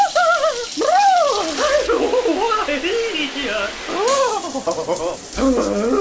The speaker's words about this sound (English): Dreading that cold morning shower. Get a water heater that works.